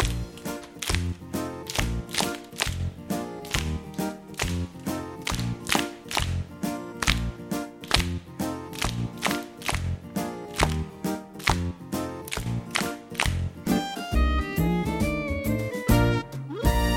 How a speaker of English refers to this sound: Now let's clap in time to the music. Ready? And...